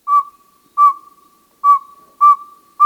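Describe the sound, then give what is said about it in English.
A northern saw-whet owl male gives his advertising call: clear, high, whistled toots repeated at a steady but slightly uneven pace, five loud notes with a faint echo trailing each. “Here are two males. Listen carefully to the pacing of their hoots.”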